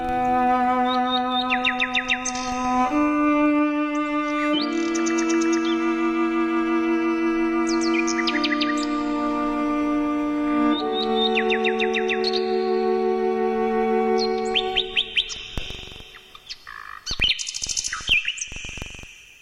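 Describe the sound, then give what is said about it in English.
A nightingale sings a varied run of bright chirps and trills over sustained, low bowed cello notes, the two sounding together, with sharper bursts of song near the end, in the radio play Cello and the Nightingale. “She became a household name and received over 50,000 fan letters from all over the world, some simply addressed to the Lady of the Nightingales, England.”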